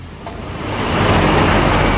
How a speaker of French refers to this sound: Véhicules blindés, camions militaires, le convoi de l'armée ukrainienne se dirige vers la tour de télévision qui surplombe les villes de Sloviansk et de Kramatorsk.